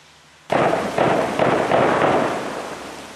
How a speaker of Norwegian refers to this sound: Der kommer skuddene, ja.